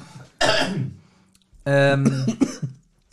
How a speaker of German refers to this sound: Siehst du? Von Schokolade muss man husten. Ja, das war wirklich Schokolade. Ne? Reizt mein Hals.